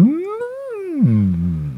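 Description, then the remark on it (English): A person imitates whale song, voicing a single long, wavering tone that rises, arcs and drops into a lower droning moan, clear, with no talking. “That's my best whale sound.”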